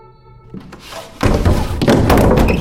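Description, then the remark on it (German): A quiet, hollow start gives way to loud pounding as both hands hammer rapidly and repeatedly against a floor, heavy thuds piling into a continuous frantic barrage with no voices. “Du hämmerst mit beiden Händen gegen den Boden.”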